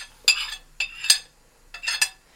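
A utensil scrapes and clinks against a pot while cooked vegetables are mixed into a sauce with meat and turmeric, in three short bursts of bright metallic knocks separated by brief pauses, moderately loud with no talking.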